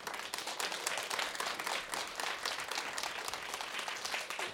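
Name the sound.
audience applause and cheering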